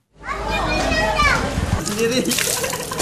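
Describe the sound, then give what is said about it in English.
Children shout and play excitedly, their voices overlapping, as they swim in floodwater down a main street in Jakarta, Indonesia, with water splashing and sloshing beneath them throughout the short burst of noisy outdoor fun. “In some areas of Jakarta, children can be seen swimming down the main street.”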